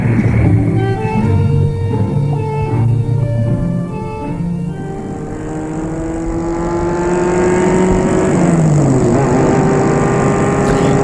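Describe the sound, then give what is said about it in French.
A car engine revs up and pulls away early on a Sunday morning, setting off for Lyon, its hum climbing in pitch through several gear changes, steady throughout with no voices. “tôt le dimanche matin, ils partent en voiture pour Lyon.”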